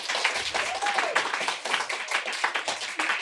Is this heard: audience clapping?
yes